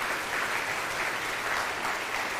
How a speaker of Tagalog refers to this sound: Sino nakaranas ng ganun? Pwede bang pumalakpak na malakas?